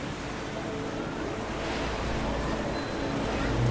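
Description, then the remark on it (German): Steady wash of harbour water lapping softly and regularly against the harbour walls, with countless small boats and ships rocking gently on it. A continuous soft surf with low rumbling undertones, even in loudness, with a breezy hiss over it. “Unzählige kleine Boote und Schiffe schaukeln gemächlich auf ihnen hin und her.”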